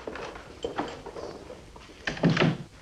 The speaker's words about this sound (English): When the room is cleared of everyone except the bench, Sergeant Crane looks around, steps out, and closes the door behind him.